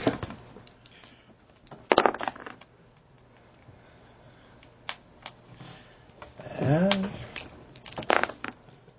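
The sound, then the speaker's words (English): Six-sided dice (D6s) rattle and click as they are rummaged through for good ones and rolled, with sharp clattering bursts and scattered small taps, plus a brief murmuring voice partway through. “As they're trying to find good D6s to roll.”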